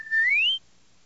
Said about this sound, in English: the droids cleared a path for R2 as he made his way to the door, whistling an invitation to follow